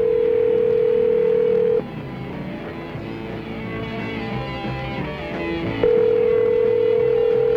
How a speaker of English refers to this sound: I'm still ringing. Yeah, we're going to call another state patrol in Montana. Try to get a patrolman on the phone here.